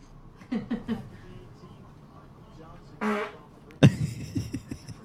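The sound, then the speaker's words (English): A string of separate fart sounds from a farting compilation, some short and sputtering, one a longer buzzy blast near the end, played in quick succession with brief pauses between them. “Those are all my farting compilations.”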